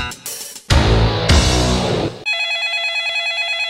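A loud burst of music-like sound gives way to a landline telephone ringing with a steady, warbling electronic tone that pulses rapidly, clear, with no one speaking.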